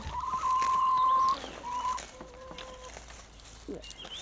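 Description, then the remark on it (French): Hens cluck while watching people gather plants: a drawn-out, squawking call followed by a few shorter, quieter clucks, with faint rustling in the background. “Les pauvres poules là qui nous voient ramasser”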